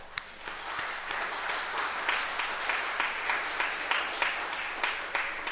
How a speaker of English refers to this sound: And so I applaud him for latching onto my little vision to allow his broader, larger vision to come into focus. And I think he deserves a round of applause for that.